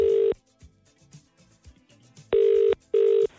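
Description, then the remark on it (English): An outgoing call's ringing tone to a phone-in contest entrant, a loud steady electronic buzz heard down the line, sounds once, then after a pause rings twice more as a quick pair, with faint muffled noise between. “We told you needed to message us over the word IKEA and answer your phone in a very particular way to get a chance of popping one of our 15 balloons”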